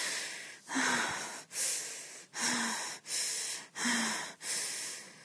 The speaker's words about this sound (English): Oh my God. I'm like an animal panting.